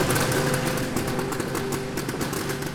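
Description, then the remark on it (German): The world's first cocoon sorting machine, which separates soil from cocoons, runs steadily with a sputtering engine drone like a moped with carburetor problems, loud, its rattling motor pulses continuous throughout with no voices. “Anhören tut sie sich wie ein Mofa mit Vergaserproblemen, aber das Prinzip ist genial.”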